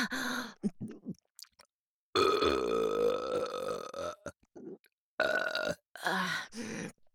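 A long, loud, gurgling burp stretches for about two seconds, flanked by shorter voiced belches and grunts, with brief silent gaps between bursts.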